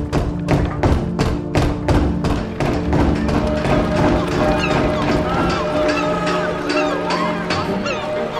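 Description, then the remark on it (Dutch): Heavy, steady banging on the wooden door of the VOC office in Amsterdam by the young under-merchant Francis Pelsaert, roughly two blows per second, loud, with a busy background murmur continuing beneath the knocks. “Laat zijn rechterhand de jonge onderkoopman Francis Pelsaert nog maar even op de deur van het VOC-kantoor bonzen.”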